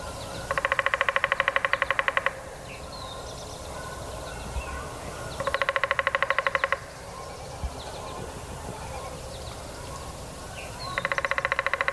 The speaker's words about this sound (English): Despite being tiny with a stubby bill, these guys are noisy drummers that seek out a loud soundboard like a hollow, small hollow stub in a tree. Let's hear the drumming of a downy woodpecker here.